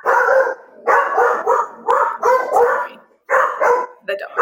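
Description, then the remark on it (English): A guard dog barks loudly and insistently at a person near the house, a rapid string of about eight sharp, harsh barks in clustered bursts with brief pauses between them. “Lilo is a guard dog, and she said there should be no people here.”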